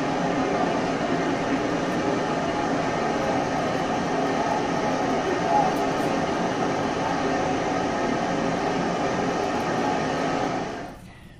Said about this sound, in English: he talks about the noise of this, the noise of the water spouts, the noise of the waterfall